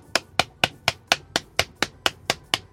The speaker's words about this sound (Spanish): Y este aplauso, si pudiera aplaudir, es para vos. Ahora voy a aplaudir contra mi pierna. Este aplauso es para vos.